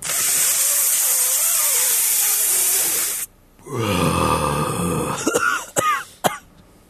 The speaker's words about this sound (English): Did you actually cough from that? No, that was my cough to get the weed in my veins. That was a good fake cough. I do miss. That was a real cough. That's another one. Those are real.